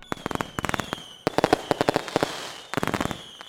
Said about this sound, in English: the skies of London were filled with a rare sight. Fireworks.